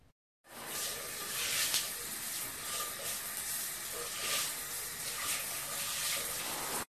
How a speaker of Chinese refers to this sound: 他瞥了女儿一眼，见女儿娇小的身子闪进浴室，接着就听见里面传出哗哗的流水声。